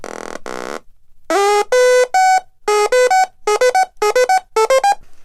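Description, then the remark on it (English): Two harsh buzzy tones give way to a loud electronic sequencer pattern from littleBits modules (power bit, oscillator, speaker, keyboard and sequencer): bright synth beeps stepping upward in pitch, repeating in quick rhythmic groups with no voices. “Add a sequencer.”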